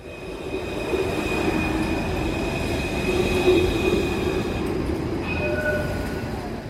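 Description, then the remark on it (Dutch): A Melbourne train or tram rumbles steadily past, its wheels giving off thin, high squealing tones above a constant roar that swells slightly midway, with no voices. “De trams, treinen en bussen van Melbourne vervoeren dagelijks miljoenen mensen door de drukke stad.”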